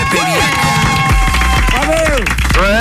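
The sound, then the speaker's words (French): A burst of audience applause on a morning radio show, welcoming a caller from Avignon: dense steady clapping mixed with cheers and whoops that rise and fall in pitch, loud and continuous for a few seconds. “Applaudissements pour Pierre.”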